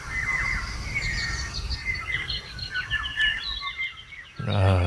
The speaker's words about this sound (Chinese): 那天非常整个森林都是鸟叫，然后太阳还正要起来而已，很难描述那个状态